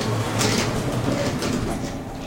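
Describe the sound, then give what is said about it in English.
The heavy outside door of an elevator slides shut with a continuous rumbling scrape, fairly loud, lasting a couple of seconds with no voices. “So, close the outside door.”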